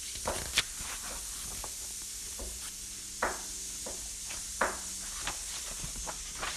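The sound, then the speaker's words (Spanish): A fire being doused gives off a steady, fairly quiet hiss of steam, broken by scattered sharp pops and crackles every second or so. No one speaks. “Solo Papá Búho apagando el fuego.”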